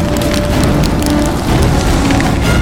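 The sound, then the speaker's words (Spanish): A sudden gust of hot wind roars steadily while dense icy hail pelts down, a constant loud clatter of countless hard pellets striking a surface, with sharp ticks scattered throughout and no voices. “Una súbita ráfaga de viento caliente y guijarros helados acribilló el relativo orden de la maniobra de fuga recién iniciada.”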